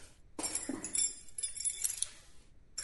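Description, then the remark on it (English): A bunch of keys jangles for about two seconds as they are handed over, a quick cluster of bright metallic clinks and rattles that then falls quiet, with no voices. “Give me your keys.”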